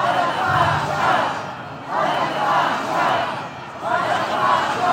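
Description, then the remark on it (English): A large protest crowd of Israelis packed in a Tel Aviv square chants "Resignation now" in unison, demanding the resignation of Netanyahu's government; loud massed voices rise in rhythmic surges about every two seconds over a steady roar of many people. “They were shouting for the resignation of Netanyahu's government.”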